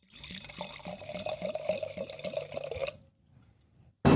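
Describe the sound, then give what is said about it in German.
Riesling from Weingut Mattis, from a freshly opened screw-cap bottle, pours into a glass in a steady splashing stream for about three seconds, with rapid rhythmic glugs from the bottle, then stops, leaving near silence before a brief sharp noise at the end. “Hast du hier nicht zum ersten Mal gehört, läuft auf jeden Fall runter und deswegen in deinem Beisein Schraubverschluss auf, stilecht. Ab ins Glas, der Gerät.”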